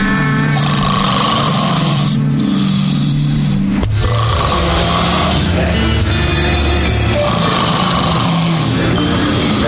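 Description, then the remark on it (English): Loud, rasping snoring of a woman passed out in her bed dominates, with deep guttural rumbles and breathy rattles repeating in long cycles, intense, with no talking. “She was snoring so damn loud.”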